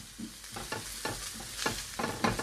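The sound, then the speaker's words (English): Aromatics stirred in a pan in sizzling residual chicken fat left from cooking chicken thighs: a steady hiss of frying with a rhythm of scraping strokes about twice a second, each swish briefly louder than the crackle beneath. “We can kind of cook the aromatics and some of that residual chicken fat that came off the chicken thighs.”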